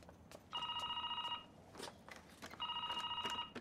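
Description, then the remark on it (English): An intercom at the desk in a building's entrance lobby rings in two bursts, each a steady electronic trill of stacked tones lasting about a second, separated by a short pause with faint clatter and footstep-like knocks. “Close the door and returns to his desk to answer the interphone.”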